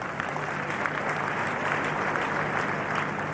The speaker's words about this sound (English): Let's clap for her.